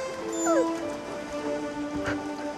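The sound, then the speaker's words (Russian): Steady pouring rain hisses continuously at moderate volume, soaking through a long cage beside a building wall, with a faint, brief tonal whine sliding upward near the beginning over the downpour. “Клетка насквозь проливается дождем.”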